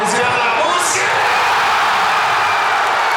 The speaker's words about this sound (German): Auf den Fanmeilen in Dresden, Frankfurt, München, Berlin oder Hamburg kennt der Jubel keine Grenzen, egal aus welcher Perspektive.